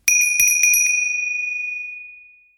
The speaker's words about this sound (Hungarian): ne feledjétek, hogy minden csengő másképp szól.